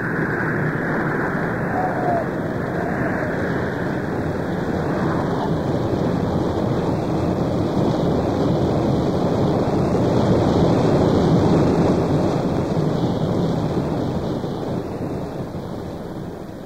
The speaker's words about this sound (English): Suddenly, the water rushed together, hissing, roaring, eager to swallow up the Egyptian army in its black depths.